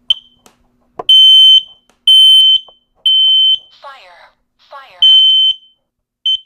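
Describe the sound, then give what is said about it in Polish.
A dual carbon monoxide and smoke detector, set off by pressing its test button, sounds loud, shrill, high-pitched beeps, each about half a second long and repeating roughly once a second, broken briefly by a short electronic voice announcing "Warning, carbon monoxide." “Mamy, mówię, czujki dualne, czyli gdzie wykrywają nam tlenek węgla i dym.”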